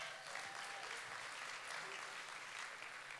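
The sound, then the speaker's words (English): A crowd claps steadily for the speaker's mother in the audience, a dense, continuous wash of many hands applauding at an even loudness with no pauses or voices standing out. “In fact, my mom is here this morning, and we could clap my mom up.”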